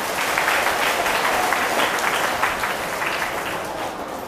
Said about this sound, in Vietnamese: Điều đó các bạn có đồng ý không? Nếu các bạn đồng ý thì hãy cho một tràng vỗ tay thật lớn.